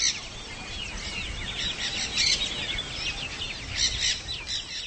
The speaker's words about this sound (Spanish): Allí donde mis ojos centroeuropeos vieron un lugar desierto donde se escuchaban solo el cantar de los pájaros y el zumbido de los insectos,